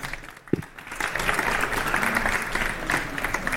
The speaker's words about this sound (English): So good luck. Thank you very much. And have some applause, please.